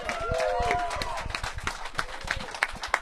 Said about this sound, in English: Well, first of all, with the crowd assembled, can we please get the first ovation of the day